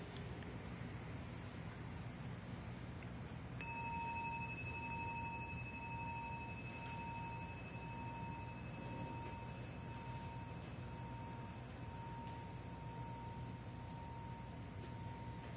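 A single bell is struck once and its clear, pure tone rings on for over ten seconds, slowly fading with a gentle pulsing shimmer over a quiet, hissy background. No one speaks.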